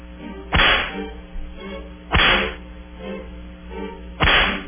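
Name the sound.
whip lashes sound effect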